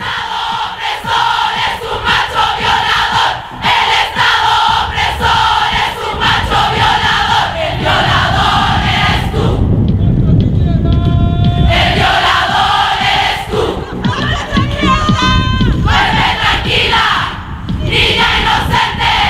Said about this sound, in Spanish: Desde ese día se empezaron a multiplicar en internet los videos que muestran a decenas, a cientos, a miles de mujeres reunidas en distintas plazas públicas del mundo para gritar que la culpa no es nuestra.